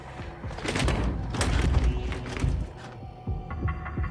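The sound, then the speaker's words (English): A locked exit door is tried: a handle rattles and the door thuds against its frame in a quick series of moderately loud knocks and clunks, with a low hum underneath and no talking. “She tries the door, but it's locked.”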